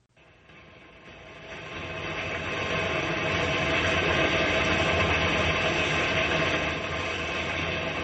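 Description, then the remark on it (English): An old train engine rumbles and rattles along slowly in a rainstorm, swelling over the first few seconds into a loud, steady mechanical roar that keeps going without any voices. “We're just a couple of guys plunking along in an old engine in a rainstorm.”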